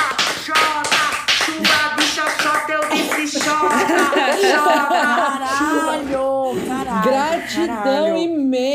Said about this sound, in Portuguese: Palmas, igreja.